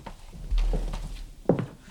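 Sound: door being opened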